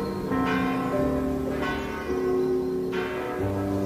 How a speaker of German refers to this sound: Der gedämpfte Klang einer Kirchenglocke.